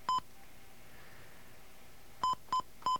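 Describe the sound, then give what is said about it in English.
Telephone keypad dialing tones as a phone number is dialed on an outside line: one short beep, a pause of about two seconds, then three quick beeps in a row, each a crisp dual-pitched tone over faint background hiss. “I'm sorry for all the little beeps, but they're...”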